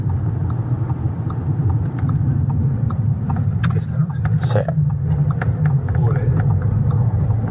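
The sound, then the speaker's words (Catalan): A car engine rumbles steadily and loudly, a low, strained drone running the whole time as it climbs a steep ramp, while people exchange a few brief words over it. “El cotxe no ho sé, ni se'n farà dur, però...”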